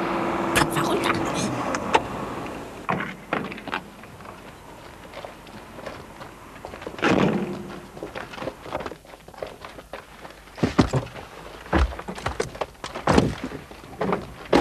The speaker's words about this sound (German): Sobald der Wagen hält und der Lieferant die ersten Kisten rausgeschleppt hat, verduften wir.